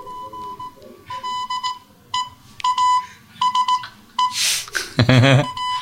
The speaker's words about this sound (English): However, my request is sent in that oldest of wireless communications languages, Morse code. To make it even easier for the recipient, I am also attaching an MP3 file containing a Morse code recording of the request. Which sounds like... this.